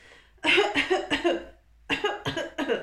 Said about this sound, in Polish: Kaszlę, bo woda dostała mi się do gardła.